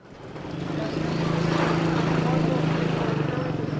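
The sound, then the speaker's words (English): A small motorcycle piled high with goods drives through a narrow alleyway of Tehran's Central Bazaar, its engine buzzing steadily, the droning pitch swelling louder over a few seconds and holding, with a faint murmur of background activity. “Small motorcycles piled precariously high with goods drive through narrow alleyways.”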